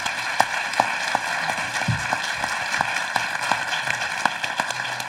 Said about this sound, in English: And I also would like to thank the audience for your participation. And one more round of applause for this.